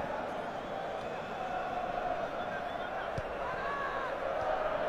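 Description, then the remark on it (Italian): A large stadium crowd of City football fans roars and chants continuously during a match against Roma, a steady wash of massed voices with a few sharp thuds and swells rising above it. “Si fanno sentire i tifosi del City, mi sentite? Forse urlare come on City.”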